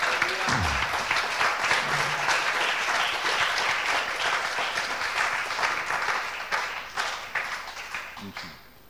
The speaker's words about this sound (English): So stand to our feet. Levons-nous. About a clap offering to Jesus. On va applaudir le Seigneur.